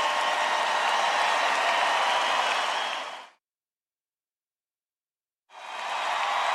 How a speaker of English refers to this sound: In the audience, a man stands and applauds.